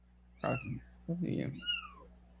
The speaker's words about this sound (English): He's taking care of a kitten, a little itty bitty kitten, okay?